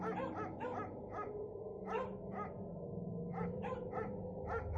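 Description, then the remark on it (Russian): Several dogs bark somewhere in the distance in quick, irregular bursts, about a dozen short yaps over a few seconds, fairly faint and set against a steady low background rumble, with no one speaking. “Где-то вдали слышался лай собак и хриплые крики.”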